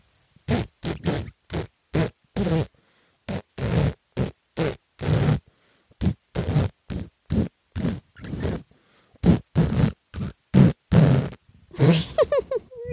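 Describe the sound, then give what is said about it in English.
A rapid sequence of short fart sound effects strung together into a bouncy rendition of Happy Birthday, each note a distinct loud blast with brief gaps, and no talking. “How do you fart happy birthday to somebody?”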